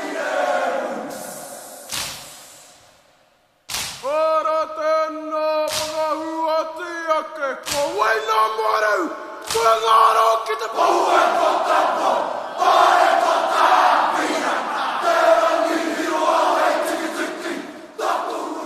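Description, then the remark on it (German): A group chants and shouts a haka war dance in unison, strong voiced bellows with sharp stamps and slaps marking the rhythm, building into a loud, dense roar of voices with crowd noise toward the end. “Der Haka-Tanz kommt mit lauten Rufen, rhythmischen Stampfen und gefährlich aussehenden Grimassen daher.”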